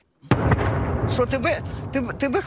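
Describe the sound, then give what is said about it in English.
A sudden, heavy artillery blast bursts in after a moment of silence and rolls on as a loud, low rumble, while a person's voice begins speaking over the fading roar. “described explosions through the night, sending shards of glass flying.”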